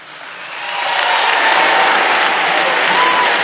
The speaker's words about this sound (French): Voilà pourquoi, à côté de moi, j'ai Annick Coupé, que vous pouvez applaudir.